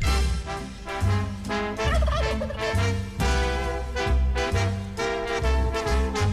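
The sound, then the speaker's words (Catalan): The two turkeys pardoned by President Biden in Washington gobble in loud, repeated warbling bursts that keep coming throughout. They are layered over a dense, steady background with a rhythmic low thumping. “els dos afortunats galls d'indi, perquè ja se sap qui seran, es relaxin a la suite d'un hotel de luxe”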